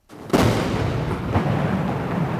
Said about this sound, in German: 70 Mal feuern die Kanonen zu Beginn der Militärparade an diesem Morgen Salutschüsse ab. Für jedes Jahr seit der Gründung der Volksrepublik einen Schuss.